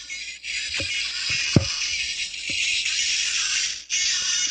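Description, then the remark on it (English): A Hasbro Tooth Tunes musical toothbrush plays its built-in song as a thin, hissy, distorted buzz with no clear melody, broken by a few sharp clicks and knocks and one brief dropout. “And Tooth Tunes, each brush has a built-in song.”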